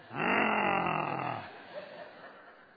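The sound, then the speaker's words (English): A voice imitates a harsh, throaty crow call: one loud, rasping, drawn-out caw lasting about a second, with a faint trailing sound after it and no words spoken. “Crow was so arrogant, he thought no matter what he did, he would get a nice song. That's why he sounds so throaty.”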